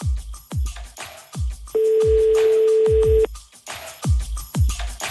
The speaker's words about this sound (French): Ça fait déjà 3 sonneries, ça. 4, 3, je ne sais plus. 4 sonneries. On va tomber sur le répondeur.